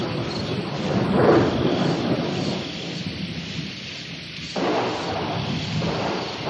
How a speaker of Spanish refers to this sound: Las plegarias no sirvieron. La lluvia aumentó.